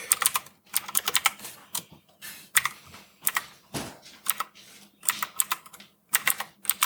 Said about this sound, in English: Dude, you need a quieter keyboard. I know, dude. I know. What? This fool's keyboard is so loud.